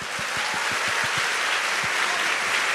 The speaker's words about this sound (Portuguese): So give yourselves a big hand. Por isso eu queria que você se aplaudisse nessa hora.